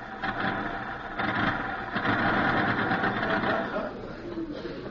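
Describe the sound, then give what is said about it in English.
A rattly old car, a clattering collection of cans, clatters along with a dense, rapid mechanical chatter and steady engine drone, then eases off and quiets slightly near the end as it comes to a stop out front. “Was that a car stopping out front?”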